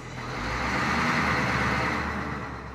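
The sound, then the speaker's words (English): Two heavy lorries rumble and roar as they drive off, a deep engine drone with broad road noise that swells in and holds steady for a few seconds, with no talking. “Eventually, two lorries came and off we went.”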